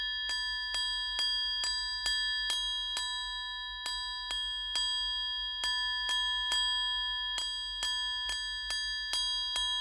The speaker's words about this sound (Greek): Χτύπησε η καμπάνα, ρόδισε η αυγή.